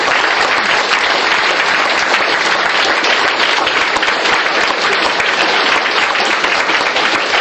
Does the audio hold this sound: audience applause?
yes